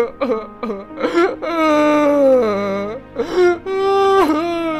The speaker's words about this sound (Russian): Не плачьте. Успокойтесь. В вас же наверняка осталось хоть что-то мужское.